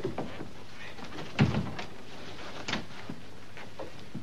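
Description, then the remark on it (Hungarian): A door is opened with a solid clunk of the latch, followed by a softer knock a moment later. “Itt van azonnal nyis ajtót.”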